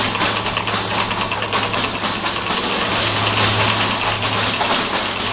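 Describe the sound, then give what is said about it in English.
A small car's engine runs steadily while driving up Sunset Boulevard, with a low, droning hum and broad rushing noise, a faint rhythmic knock buried deep in the drone. No one speaks. “And I didn't notice it at first, but then gradually, very quietly, I began to hear the faintest little knock in my engine.”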